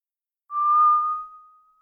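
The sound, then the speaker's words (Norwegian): A single soft, steady whistled tone holds one pitch for over a second, starting with a faint breathy edge and then slowly fading away. No one speaks. “Bjørnen Alfred blir stille att, og det høres det låg plystring.”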